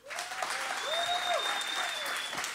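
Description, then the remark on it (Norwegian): Steady applause from an audience, a dense wash of many hands clapping at even loudness throughout, with a few faint whistle-like tones riding above it; the audience claps to vote for which contestant was best. “Hvis dere synes kurva best, gi en respons nå. Klapp.”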